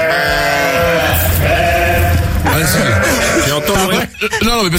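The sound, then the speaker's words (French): A dense chorus of overlapping sheep-like bleats, loud, with wavering, quavering tones that sound like many human voices imitating a flock, continuing with barely a pause. “Ah, on dirait des vrais brebis quand même.”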